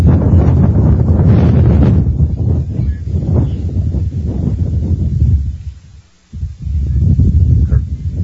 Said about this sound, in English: You can hear the wind gusting. Here's Gilbert Pitt swung out and fouled out of play. Boy, I'd like to bat when the wind's gusting out there.